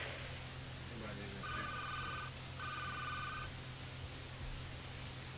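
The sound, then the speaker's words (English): A telephone on another line rings twice in quick succession during a phone call, two electronic trill bursts heard faintly over a steady, hissy phone-line background. “Is there any way you can stop the other phone?”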